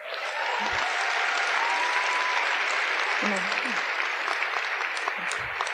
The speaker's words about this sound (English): You guys are going to clap after everyone.